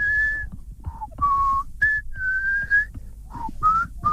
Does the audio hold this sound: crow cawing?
no